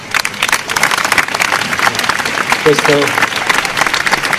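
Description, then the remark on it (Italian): Dense, sustained applause from a large audience at the fourth Festival di Internazionale in Ferrara, a steady wash of many hands clapping at once, with a brief vocal sound rising out of it near the end. “Questo applauso è per voi.”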